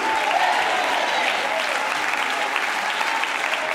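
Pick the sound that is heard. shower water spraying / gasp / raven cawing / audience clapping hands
audience clapping hands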